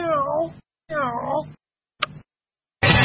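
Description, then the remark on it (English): A cat meows twice in quick succession, two drawn-out, wavering, clear cries, followed by a brief click and a burst of noise. “where's that cat in the background?”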